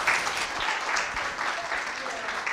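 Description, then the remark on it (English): A steady round of applause from many hands for children, a dense crackling patter that holds a fairly even loudness throughout with no pauses. “I think the children, again, deserve another round of applause for being brilliant.”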